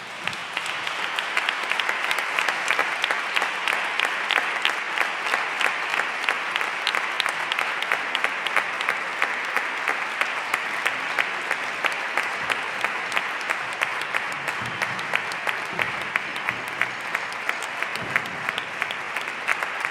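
A crowd applauds the band's school drum group at a Holy Week (Semana Santa) concert in Spain, steadily for the full stretch, a dense, even patter of many hands clapping at a fairly loud, constant level with no voices rising above it.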